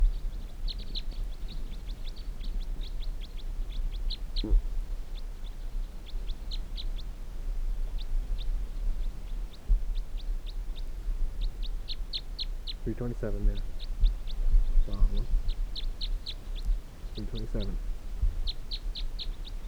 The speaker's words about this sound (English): The other birds, one of them took off, went down the hill, and there are a couple still around in the treetops.